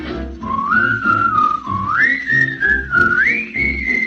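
Someone whistles a bright, stepping melody, holding each note clearly and rising in pitch as it goes, over a steady instrumental backing with a soft bass pulse.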